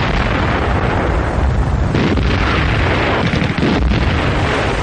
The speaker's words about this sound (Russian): Бесконечные автоматные очереди, грохот танковых залпов и свист летящих снарядов участились в Курляндии с октября 44-го, когда советские войска отрезали немецкую группу армий «Север» от группы армий «Центр».